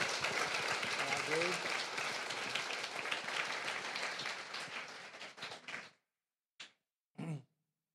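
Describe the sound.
A crowd applauds the final guest of the night steadily and loudly for about six seconds, with a brief cheer rising early on. The clapping tapers off abruptly, followed by two short, isolated sounds, the last one a voice.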